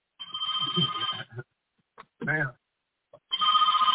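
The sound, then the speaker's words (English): A telephone rings in two long, steady trills separated by a pause, with a brief burst of voice in the gap between them. “Come here, the big man, pick up the phone.”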